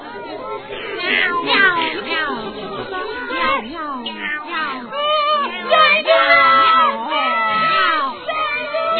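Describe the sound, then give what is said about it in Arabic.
High, frantic screams from several voices overlap loudly, rising and falling without a break for about nine seconds, mixed with yowling cat-like cries: a hen's chicks screaming in fear as a cat approaches them. “لهذا شعر بخوف كبير وعرف أن القطة تريد أن تؤذيهما فصرخا.”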